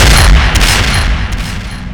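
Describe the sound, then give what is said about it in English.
A loud gunshot from a USP-45 pistol rings out, its sharp crack followed by a heavy, rumbling wash of sound that stays strong for a couple of seconds, with a few brief snaps within it and no voices. “The USP-45 slug crashed into her forehead.”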